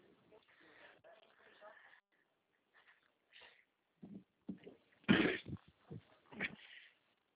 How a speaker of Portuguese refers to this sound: Tem um aí que tá ruim da tosse aí, Ah, é a minha hein? gerente, ela tá resfriada. Ela tá tossindo a beça.